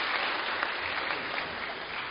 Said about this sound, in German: Genau, das ist Applaus wert, absolut.